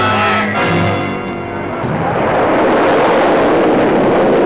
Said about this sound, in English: GIs prepare to give a new guided missile its first public flight